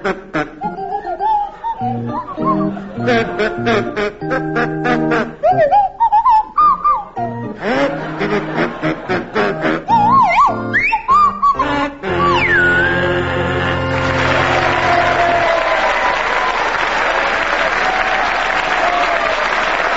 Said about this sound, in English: Tim and Willie, you're to start, and your carol is "Deck the Hall with Boughs of Holly," and it's to feature Willie Rushton on kazoo and Tim Brooke Taylor on Swanee Whistle.